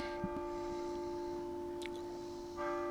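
A church bell rings at a chapel built in 2014 overlooking Table Rock Lake, its deep tones humming and lingering steadily, with a fresh strike brightening the sound near the end. No one speaks.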